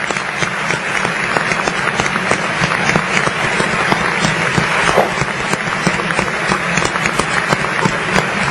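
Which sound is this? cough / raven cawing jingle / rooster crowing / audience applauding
audience applauding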